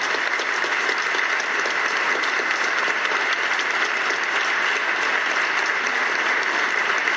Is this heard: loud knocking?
no